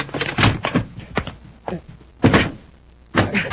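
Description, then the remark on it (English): A door is slammed shut to keep out a robot, amid a series of heavy thuds and bangs, several loud impacts arriving irregularly with brief quieter gaps between them. “Shut the door. Try to keep it out.”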